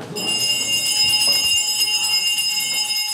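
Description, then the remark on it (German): A hand bell rung by Usama Hamoud, Secretary General of the Bundesschülerkonferenz, chairing the session, rings steadily and loudly for a few seconds, its bright metallic shimmer sustained throughout, with a faint murmur of the meeting underneath. “Der Herr dieser Glocke ist Usama Hamoud, das ist der Generalsekretär der Bundesschülerkonferenz.”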